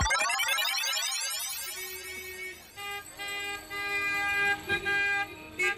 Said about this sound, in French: Ce concert de klaxons, ça casse un peu les oreilles, non? Oui, et pas qu'un peu, hein?